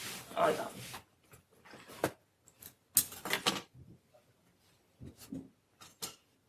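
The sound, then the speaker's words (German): Rummaging to take out a laser pointer: a string of brief rustles, clicks and clattery knocks, like small objects being shuffled around, coming in irregular bursts separated by short quiet gaps. “Mein Laserpointer mal rausholen hier soweit.”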